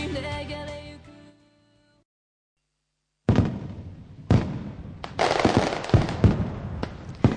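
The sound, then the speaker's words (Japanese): A tonal musical note fades into a short silence, then fireworks burst in, loud booms at uneven intervals followed by dense crackling and popping that keeps going to the end. “はい、夏といえば花火ということでね、日本の花火文化を堪能しようってことで、今日はですね特別企画、2009年花火大会情報をいくつかピックアップしてお伝えしたいと思います。”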